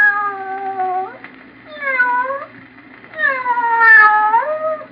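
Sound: cat meowing sound effect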